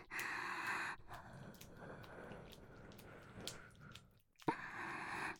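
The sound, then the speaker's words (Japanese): Heavy breathing with breathy exhales and faint vocal moans woven through, rising and falling over several seconds with a brief pause near the end before resuming. “私の喘ぎ声混じりの吐息、そんなに興奮しますの？”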